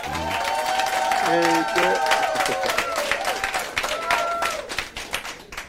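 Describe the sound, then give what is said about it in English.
A live studio audience on the show Money Making Conversation claps steadily in a dense, continuous wash of applause, welcoming a gospel guest, with whoops and tonal cheering voices rising above it, tapering off toward the end. “Hey, I brought the live crowd for you”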